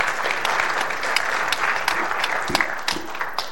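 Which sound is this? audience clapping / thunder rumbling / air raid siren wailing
audience clapping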